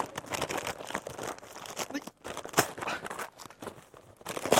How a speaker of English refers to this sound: But they tear it open. That wrapping paper cannot be used again, can it?